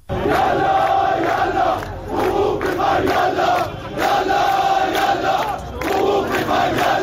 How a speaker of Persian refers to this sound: معترضان به گرانی و تورم به خیابان‌ها آمده و علیه مقامات عالی جمهوری اسلامی شعار می‌دهند.